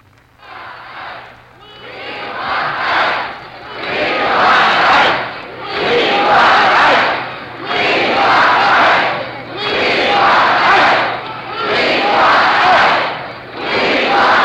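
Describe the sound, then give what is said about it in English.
A capacity crowd in the main auditorium of Masonic Temple in Detroit cheers loudly and enthusiastically while waiting for an address by Dwight D. Eisenhower, roaring in steady rhythmic surges about every two seconds, like a chant, with a faint low hum underneath throughout. “We're speaking from the main auditorium of Masonic Temple in Detroit, where a capacity crowd of wildly enthusiastic Detroiters are waiting to hear a major address by Dwight D.”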